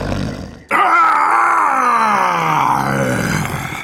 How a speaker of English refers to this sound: The Cyclops screamed. It jumped up and ran round the cave. It crashed into things and yelled in a voice that sounded like thunder.